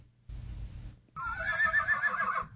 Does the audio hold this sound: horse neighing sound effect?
yes